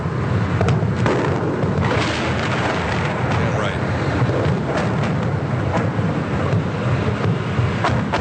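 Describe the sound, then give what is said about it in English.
A loud, continuous rumble of bombing, with repeated sharp blasts bursting through a dense roar of explosions that never lets up, as Saddam's house is bombed in Iraq in April 2003. “That's Saddam's house going up right there.”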